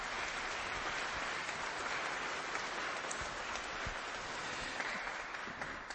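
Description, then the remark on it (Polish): An audience applauds a visiting family who travelled from Szczecin, a dense, even wash of many hands clapping at a constant loudness for the whole stretch, with no voices breaking through. “Przyjechali ze Szczecina, myślę, że za tę drogę, to też już brawa.”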